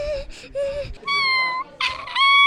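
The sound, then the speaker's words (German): A cat meows in a string of high, whiny cries, about four drawn-out calls in quick succession, fairly loud, with no talking. “Plötzlich trifft es die Katze.”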